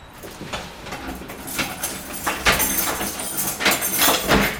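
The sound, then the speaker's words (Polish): A heavy old church door in Lublin with a lock from the 1930s is unlocked with a key and opened, with a series of irregular metallic clunks, clicks and scrapes from the lock and latch, fairly loud and without talking. “Nasz kościół to jest zamykany na taki niepozorny klucz, którego nie dorobi pan w całym Lublinie.”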